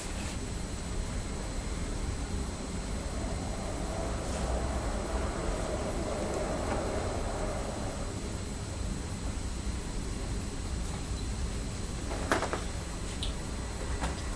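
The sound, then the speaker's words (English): A train rumbles past, its steady roar swelling gradually and fading again, with a couple of sharp clanks near the end and no voices. “I just heard a train going past.”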